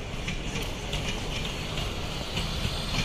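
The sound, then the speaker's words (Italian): A steady, loud rumble of a passing train rolling along railway tracks at platform 2 of Verona station, with continuous low-end roar and faint rhythmic hissing and clatter, no voices present. “Sì, in effetti era solo un treno di passaggio.”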